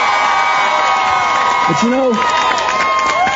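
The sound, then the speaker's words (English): A loud, sustained crowd roar of applause and cheering for Jim Webb, candidate to be the next senator from the Commonwealth of Virginia, with whoops and shouted voices rising over steady dense clapping throughout. “Give Jim a round of applause.”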